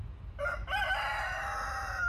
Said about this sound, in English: If you have ever been to the village of Arroyo Grande in southern San Luis Obispo County, you may be familiar with the sound of the roosters.